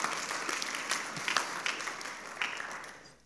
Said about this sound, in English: Wow, good job. Let's give a clap to that.